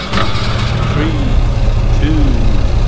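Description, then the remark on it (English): A racing game car engine starts up and rumbles loudly and steadily throughout, with brief rising whines surging over the low, continuous drone. “Okay, so I'm player one. Start your engine.”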